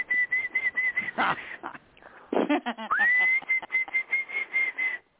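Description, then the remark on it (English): A person whistles a steady imitation of a canary's song, holding a high warbling tone broken by rapid trills and a quick rising glide, with no talking. “Can you do bird calls?”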